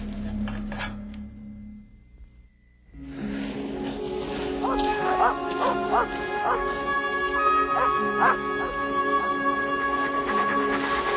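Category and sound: animal, dogs barking and yipping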